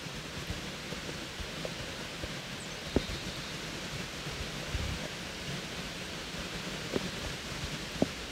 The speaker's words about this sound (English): It was raining a tiny bit, but there are all of these yellow butterflies doing loop-de-loops in the air. This is a little creek that runs right through Dolly's childhood home.